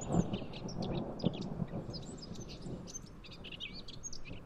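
Thunder from a summer storm rumbles low and steady beneath a chorus of chirping birds, whose bright, repeated calls stand out clearly above the deep, continuous roll of the storm.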